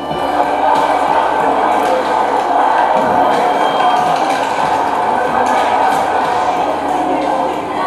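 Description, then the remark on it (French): A dense, steady crowd murmur in the underground shopping galleries of a metro with many small cafés serving meals at midday, many overlapping voices blending into a loud, continuous din with no single speaker standing out. “Voilà donc les galeries marchandes avec beaucoup de petits cafés qui offrent les repas, donc le midi.”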